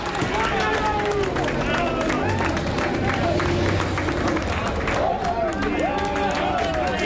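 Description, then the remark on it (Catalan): Motorcycle racer Aleix's team cheers and shouts excitedly without pause as he arrives at parc fermé after a race, mixed with clapping and crowd noise, with a few louder drawn-out yells rising above the din near the end. “Ara l'Aleix arriba al parc tancat i mira, que l'alegria del seu equip, evidentment, aquests són els seus crits.”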